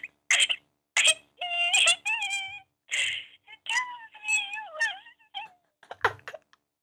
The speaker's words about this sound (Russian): Почему ты тогда плачешь? Потому что со мной общаться не хочешь.